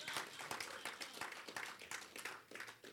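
A church audience claps for the Lord Jesus during a sermon on the tithe, many hands overlapping in a dense, steady burst of applause, a crisp, bright patter that holds at an even loudness throughout.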